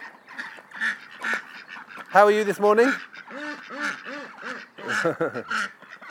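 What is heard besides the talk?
ducks quacking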